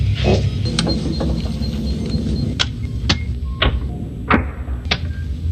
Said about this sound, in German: Hammer.